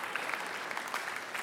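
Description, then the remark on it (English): An audience applauds steadily, a dense wash of many hands clapping at once with no clear individual beats, holding an even, moderate level throughout. “Yes, clap for that.”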